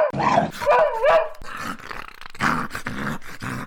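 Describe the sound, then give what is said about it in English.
A dog, Brutus, barks frantically while trying to tear through a door, a rapid, loud string of harsh, strained barks, some rising into high yelping cries with growly edges and only brief gaps between them. “Tiny yapper versus slobbering psycho. Brutus is losing his goddamn mind, trying to tear through the door.”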